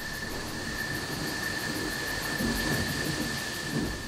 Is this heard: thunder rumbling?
yes